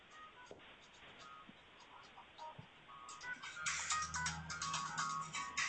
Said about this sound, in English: It's my phone ringing.